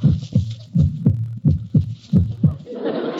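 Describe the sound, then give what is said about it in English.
A knocking heartbeat effect: deep, thudding double beats in a steady lub-dub rhythm, fairly loud and alone, giving way to a soft hissy rustle at the end. “I found your advertisement, and I come knocking at your heart.”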